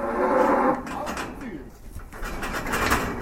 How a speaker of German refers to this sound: Bei der zweiten Übung kommt das Lasso zum Einsatz. Es geht darum, die Kuh mit dem Wurfseil einzufangen und zu beruhigen. Der Lassowurf gelingt. Eingefangen ist das Tier schnell, aber beim Fixieren wehrt sich die Kuh heftig.